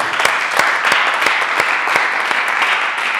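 An audience applauds, a steady wash of many hands clapping at once, with a few sharper individual claps standing out in a loose rhythm. It's fairly loud, with no talking.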